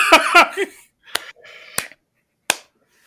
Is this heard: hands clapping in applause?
yes